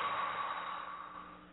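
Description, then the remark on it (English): A long, steady breath exhaled in one airy rush during a breathing exercise, soft, tapering gradually as it ends, with no talking over it. “Now exhale.”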